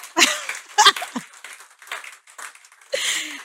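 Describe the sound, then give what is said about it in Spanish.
A crowd applauds in uneven bursts, a broad rustling clatter that swells and fades over a few seconds, with scattered voices calling out over the clapping. “Bueno, vamos a dar aplauso.”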